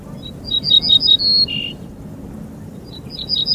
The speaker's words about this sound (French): Cet oiseau que vous entendez là est un bruant ortolan, un petit passereau des campagnes aux faux airs de moineaux, un grand chanteur, l'ortolan, malheureusement moins connu pour ses talents d'artiste que pour sa chair